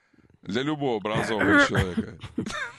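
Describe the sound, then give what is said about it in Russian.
A woman clears her throat, a voiced, raspy rumble that stretches over a couple of seconds, fairly loud and with no other sounds around it. “Нет, я думаю, что я откашлялась вместе с 40% наших... слушателей.”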